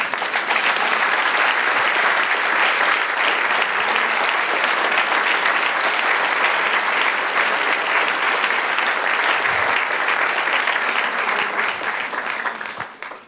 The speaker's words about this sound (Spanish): Denle otro aplauso al Señor.